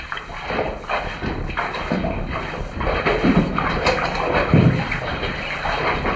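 Steady sloshing of water as someone wades across a knee-deep cave pool, with repeated surges and splashes roughly every second over a constant wet rushing backdrop, no voices.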